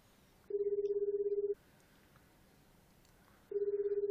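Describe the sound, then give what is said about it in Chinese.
A phone's ringback tone sounds twice as a husband anxiously places a call, each a steady buzzing burst about a second long separated by a pause of silence, with no one picking up and no voices. “老公这焦急的打电话，一直打电话。”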